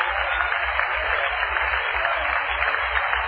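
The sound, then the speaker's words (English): An audience claps and shouts together in a dense, continuous wash of hand claps and raised voices, holding a steady, loud roar for the whole few seconds without a break. “why don't you look to the hills and begin to clap and shout and let those chains be broken.”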